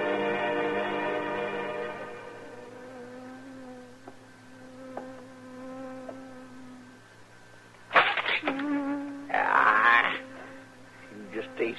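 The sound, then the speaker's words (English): A bee buzzes around a man's head in a steady, droning hum for several seconds, then swells into louder, rougher bursts near the end. “Doggone bee buzzing around his head all day”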